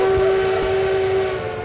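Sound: train horn blowing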